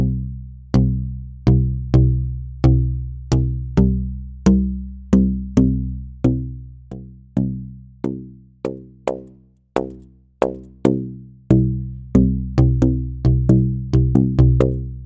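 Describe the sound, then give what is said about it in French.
A resonant telescoping tube is struck in a steady rhythmic pattern, each note ringing with rich harmonics whose brightness shifts like an electronic filter sweep, as different harmonics stand out from one end of the tube to the other, the hits growing quicker toward the end. “Vous allez voir, ça fait en fait ça permet vraiment qu'il y ait un mouvement de filtre de style vraiment électronique d'une extrémité à l'autre du tuyau.”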